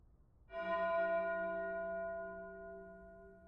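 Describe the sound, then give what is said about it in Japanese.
A single bell strikes once, its rich harmonic tone ringing out and slowly decaying, sounding somewhat distant and soft with no voices present. “遠くに響くこの鐘の音。聞き覚えありますよね。”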